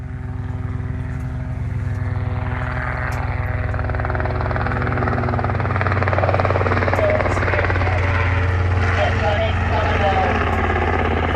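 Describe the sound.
A mustering helicopter flies steadily overhead on a family station in far west New South Wales, Australia, where goats are mustered, its rotor drone loud and continuous with a low pulsing thrum and strong humming tones throughout, while faint voices murmur underneath.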